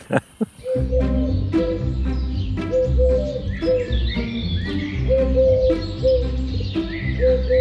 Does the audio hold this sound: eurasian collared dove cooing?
yes